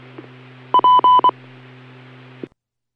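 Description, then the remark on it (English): Fire department dispatch paging tones for Spring Creek Fire, sent to a gas leak at a residence in Pleasant Hill: a quick run of four loud, steady electronic beeps over a constant low hum from a radio channel, which cuts off into silence. “Spring Creek Fire, copy the page.”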